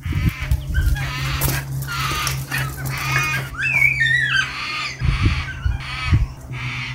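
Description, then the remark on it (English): Harsh, strained bird calls repeat loudly in a neighbour's yard, some rising and wavering like distressed shrieks, over a steady low hum with a few thumps; the calling went on for about half an hour. “And I couldn't tell if the birds were being strangled, if they were being harmed, if they were mating.”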